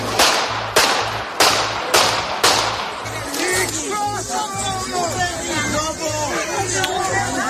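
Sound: gunshots fired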